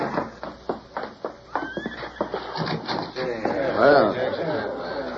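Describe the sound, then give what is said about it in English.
Hooves clip-clop in a quick, uneven run of hard knocks, then a horse lets out a loud, wavering neigh. Faint voices murmur underneath. The horses are at a cabin set well back among trees, where a man from the house takes charge of them. “A man stepped from the house and took charge of the horses.”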